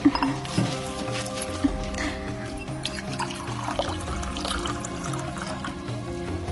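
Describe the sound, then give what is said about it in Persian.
Drinking water is poured steadily into a cup in the desert heat, a continuous trickling splash with a faint clink near the start, set against a low, humming musical background. “از این آب گوارا بنوشید که در این آتش بیابانی نعمتی شیرین است.”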